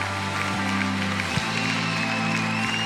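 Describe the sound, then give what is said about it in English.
Light, polite golf-clap applause from a church audience, a soft steady patter of clapping without cheering, carried over a sustained low musical drone. “That's a golf clap.”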